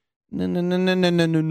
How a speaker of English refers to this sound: And then adding a Doppler pitch to the gliding audio. And that kind of creates the car passing by or train passing by.